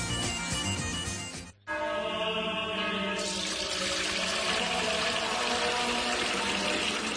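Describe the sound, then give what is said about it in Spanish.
Pure spring water pours steadily into a container, a continuous gushing with a rising fill tone, briefly cut off about a quarter of the way through before flowing on. “es que no nos quedaba agua bendita. Agua pura de manantial Fuente Umbría.”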